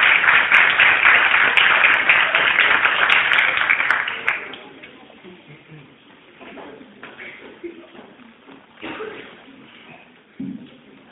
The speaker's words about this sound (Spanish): un aplauso fuerte para ella.